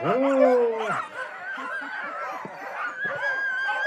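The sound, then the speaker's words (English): A crowd of excited sled dogs barks, yips and howls together before the start of a two-mile race, one long drawn-out howl up front giving way to a dense, continuous chorus of overlapping barks. “From what I hear, the dogs are raring to go.”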